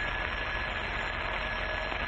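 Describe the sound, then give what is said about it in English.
A telephone in an office rings in one continuous, unbroken trill, with a thin high tone running steadily over a broad layer of buzzing noise. The level stays even throughout, and no one speaks. “As I was sitting in my office, the phone rang.”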